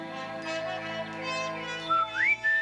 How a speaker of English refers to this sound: An unusually beautiful morning it was. Even the Grinch woke up whistling.